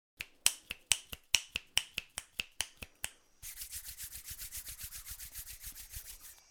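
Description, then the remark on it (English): About a dozen crisp finger snaps in a steady rhythm, then a continuous swishing of hands rubbed together in quick pulses, imitating the sound of rain and rustling leaves in a rainforest. No one speaks. “Now, can you click your fingers or rub your hands together to make the sound of the rain and the rustling leaves?”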